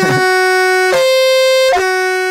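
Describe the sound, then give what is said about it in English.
A loud, steady horn sound effect: a bright, buzzy tone held throughout, re-sounded with sharp attacks three times in quick succession at an unchanging mid pitch. “And you're only doing horn and alarm sounds today.”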